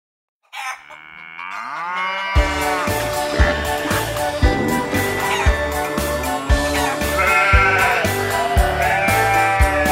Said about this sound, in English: Ba, ba, says the sheep.